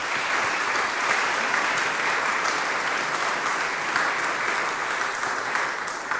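An audience applauds steadily for several seconds, a dense, even wash of many hands clapping at a constant loudness with no voices rising above it.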